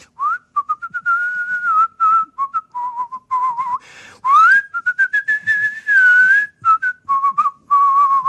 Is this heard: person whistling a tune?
yes